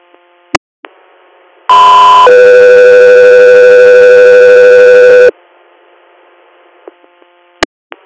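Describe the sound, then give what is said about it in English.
Loud radio dispatch alert tones for Guthrie Air: a brief higher tone jumps to a long, steady lower tone lasting a few seconds, framed by sharp radio clicks and faint background hiss. “Guthrie Air, stand by for tones.”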